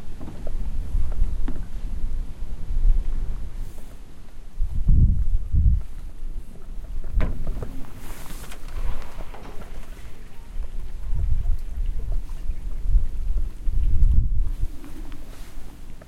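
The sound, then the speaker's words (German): Water splashes and laps irregularly in low, gurgling bursts, with a steady wash of wind noise and outdoor ambience underneath and no speech. “Können wir mal kurz das Geplätscher.”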